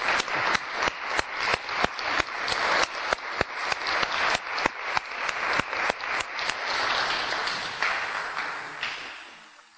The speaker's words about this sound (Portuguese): Vamos a darles un aplauso por los 25 años.